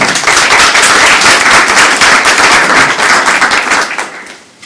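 Loud, dense audience applause welcoming a speaker at a talk about reading Marx, many hands clapping in a steady crackling wash, sustained for several seconds before tapering off at the end. No voices are heard.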